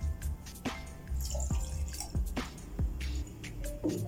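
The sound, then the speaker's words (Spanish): Red wine is poured into a drink mix over ice, with a run of wet glugs, drips and small splashes, irregular and moderately loud, with no voices. “Incorporaremos el vino tinto.”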